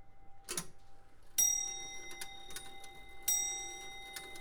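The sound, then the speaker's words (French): A skeleton clock, an old Comtoise clock converted by removing its dial, ticks steadily while two bright chime strikes ring out a couple of seconds apart, each leaving a sustained metallic tone that fades under the ongoing ticks. “Alors là, c'est une horloge qu'on a transformée. On a enlevé le cadran.”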